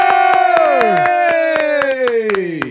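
A group claps in loose, uneven bursts to welcome a guest while voices whoop and cheer over it, long hollering shouts sliding downward in pitch, loud and steady throughout.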